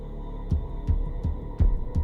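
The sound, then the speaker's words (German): A fast, steady heartbeat throbs in deep, booming thumps as part of a film score, five beats in quick succession over a low sustained hum, with no voices present. “Er bestimmt das Geschehen und er gibt den Puls der Szene vor.”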